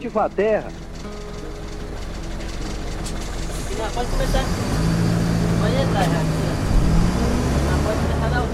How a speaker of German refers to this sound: Nach 4,5 Stunden Fahrt und weiteren Stopps biegt der Bus von der Hauptstraße ab.